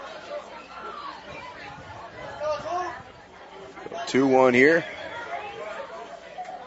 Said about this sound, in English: And Reese Mahalik getting plenty of encouragement from the crowd. This is a crowd that believes in his abilities, and he has done well so far this game.